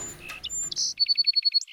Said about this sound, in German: Manche der Singammern schaffen am Ende kompliziertere Melodien. Andere, einfachere.